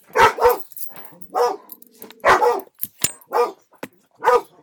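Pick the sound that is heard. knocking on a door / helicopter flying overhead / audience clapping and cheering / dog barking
dog barking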